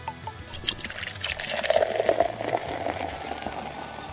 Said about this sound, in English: And now pour it into that glass.